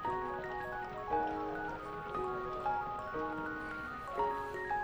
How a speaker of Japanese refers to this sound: そんな少女には目もくれず、雨は静かに降り続けている。